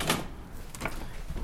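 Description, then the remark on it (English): The back door of a church opens: a sharp latch click, then a second knock-like clatter a moment later, soft, over a quiet hum with no one talking. “Father Harry opens the back door of the church.”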